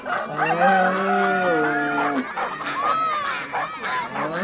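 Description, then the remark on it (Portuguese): A rooster crows loudly in one long drawn-out call, followed by a busy jumble of overlapping farmyard calls and clucking hens, from chickens, a rooster, a goose, a goat and a cow kept inside a house. “Ele pediu para que colocasse 2 galinhas, 1 galo, 1 ganso, 1 bode e 1 vaca para morar junto com todo mundo dentro de casa.”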